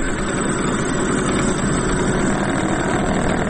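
An old lathe, several decades old and used to make unique rings and spinning tops, runs steadily with a constant mechanical drone and low humming rumble, the motor noise unbroken and even throughout with no voices.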